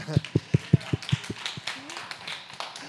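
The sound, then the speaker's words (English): A short burst of audience clapping at Replicate, thanking volunteers of a couples' date night held by its marriage ministry: about eight sharp, evenly spaced claps in a quick rhythm that thin out and fade, while faint voices murmur underneath. “So that's part of, yes, you can clap.”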